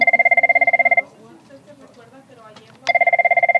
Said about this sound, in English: about a dozen workers are busy on the phones. This is Naleo's call center. In May, these desks will be filled with phone canvassers working on getting out the vote.